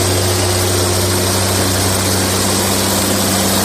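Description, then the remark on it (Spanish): A tractor engine runs at a steady, loud drone with a low, throbbing hum, continuous, with no voices over it, as the tractor drives across an olive farm inside the Parque Regional del Sureste near Madrid, Spain, during the olive harvest. “Recorremos en el tractor esta explotación que está dentro del Parque Regional del Sureste”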